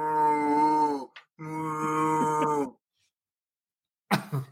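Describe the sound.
A person imitates a cow with two long, drawn-out moos, fairly loud, followed by a brief pause and a short rough cough-like burst.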